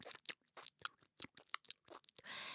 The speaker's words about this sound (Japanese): 耳なめは唐揚げ揚げる音ですよね、これね。なので皆さん、そうですね、耳なめが恋しくなったら唐揚げ揚げればいいんじゃね。